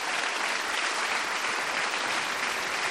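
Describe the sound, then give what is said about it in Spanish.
A crowd claps steadily for a priest, many hands together producing a dense, continuous patter of applause that holds at an even, fairly loud level throughout, with no voices standing out. “Otro aplauso al Padre.”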